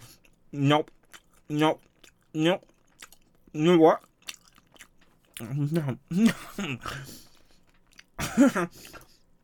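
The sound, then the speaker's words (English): Exaggerated chewing sounds, with about four evenly spaced voiced 'mm' chomps followed by a messier run of wet, smacking bites and mouth noises, loud. “Speaking of annoying things, I'll chew as well.”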